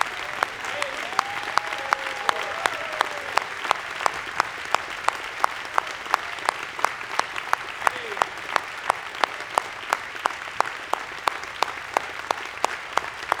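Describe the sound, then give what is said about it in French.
Sustained applause from an audience, a dense steady patter of many hands clapping for over ten seconds with sharp regular claps standing out, and a faint voice calling out briefly under it. “Nous sommes élevés pour applaudir.”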